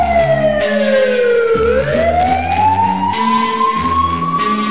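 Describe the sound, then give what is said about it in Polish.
A loud police siren wails, its pitch sliding down then slowly climbing back up, heard over a steady musical backing with low sustained tones. “Usłyszysz syrenę, już wiesz, tu rządzi miasto.”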